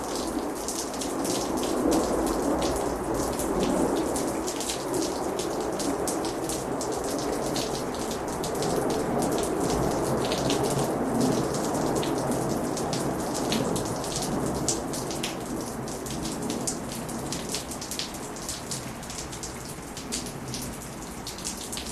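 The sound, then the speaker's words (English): Steady, heavy rain pours down continuously, a dense hiss with crisp drops spattering, while a low rumble of thunder lingers underneath. No one speaks. “Yes, I love the sound of rain.”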